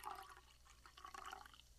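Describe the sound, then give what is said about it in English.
Soju and makgeolli are poured from one glass into a glass of beer, with a continuous rush of liquid and fizzing lasting about two seconds, swelling again near the end. “We're going to pour this into the beer.”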